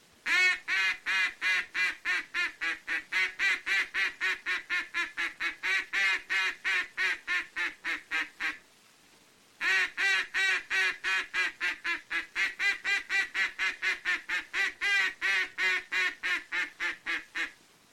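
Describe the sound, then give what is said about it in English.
A duck call sounds a long greeting call, meant for ducks at quite some distance away: two extended runs of loud, rapid, evenly spaced quacks, separated by a brief pause, with no talking. “Now, the first call to use is the long call or greeting call, and should be made only to ducks at quite some distance away, but should never be given when the ducks are in close.”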